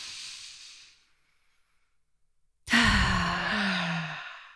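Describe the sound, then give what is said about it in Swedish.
A soft, airy breath drawn in through the nose with the mouth closed, all the way down into the belly, a brief pause, then a long, loud exhale that turns into a voiced sigh, with no talking. “Bara ett andetag hela vägen ner i magen genom näsan hjälper oss att tappa in i vårt parasympatiska nervsystem, aktivera vagusnerven som verkligen hjälper till att lugna hela kroppen.”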